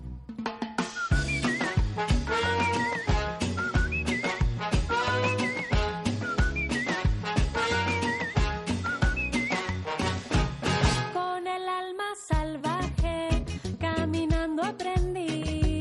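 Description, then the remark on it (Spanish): Bright whistled trills imitating birds flutter over an upbeat tropical song with steady percussion and bass, repeating in short melodic phrases before the music briefly drops out and returns. “Oye, chicos, estos silbidos podían ser, por ejemplo, de pajarillos o pájaros que nos encontremos a nuestro paso.”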